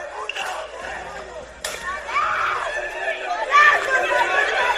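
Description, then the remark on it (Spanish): A Tuesday-night riot in Jumilla, a group of young people clashing with police and throwing stones and bottles at security forces and patrol cars: many voices shouting and yelling over each other in a constant, chaotic din, with a single sharp crack partway through and the yelling growing louder near the end. “Es el sonido de los incidentes, protagonizado por un grupo de jóvenes.”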